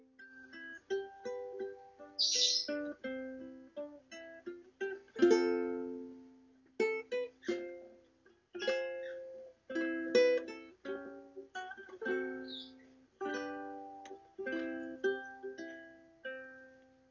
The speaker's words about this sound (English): So now I'm in proximity of three of our birds, and they love to chime in from time to time,